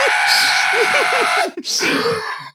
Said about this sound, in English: Sorry, my wife is out of the house, which means I'm going to be doing a lot of screaming on this episode.